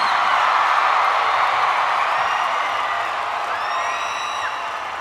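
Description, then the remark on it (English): A large concert audience at a live music show cheers and applauds in a steady, dense roar, with a few high whoops and whistles rising above the clapping; the noise stays loud throughout and eases slightly near the end. “Normally, I thank you at the end of the show, but I gotta thank you guys right now because this is such an amazing crowd that I gotta say thank you right now.”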